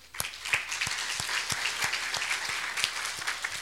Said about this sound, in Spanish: Me gustaría, antes de comenzar la predicación del día de hoy, saber cuántos ancianos hay aquí el día de hoy que pueda levantar la mano. ¿Cuántas personas sirven en esta congregación? ¿Puede levantar la mano? Vamos a dar palmas al Señor por eso.